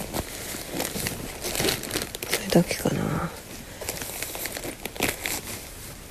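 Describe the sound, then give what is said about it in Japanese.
Plastic crinkles and rustles in irregular bursts, a thick garbage bag and a raincoat being handled, with a short spoken remark partway through. “あとちょっと厚めのゴミ袋が1枚と、あと雨がっぱですね。”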